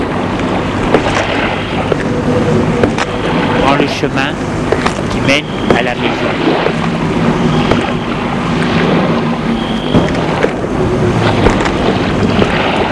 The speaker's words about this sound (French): Il fait froid et il y a du vent.